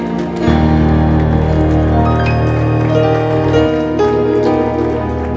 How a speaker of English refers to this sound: Somebody clap your hands and shout amen.